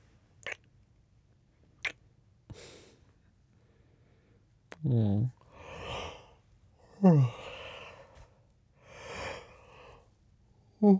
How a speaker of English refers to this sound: Yeah, you're getting sleepy. I can tell by your yawn.